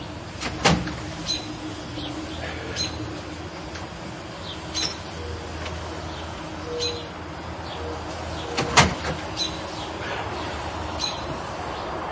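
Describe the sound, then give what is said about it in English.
A front door opens twice, each time with a sharp click and rattle about eight seconds apart, against a quiet outdoor background with faint, high bird chirps scattered throughout. “And when we open the front door, one of them thinks it's time to eat and pokes his head up like this.”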